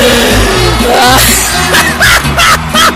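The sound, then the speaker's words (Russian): Loud music plays with a steady low beat while the studio audience of a TV game show erupts in bursts of applause and cheering, the clapping swelling in waves over the band throughout. “аплодисменты и музыку! Трам-тарам!”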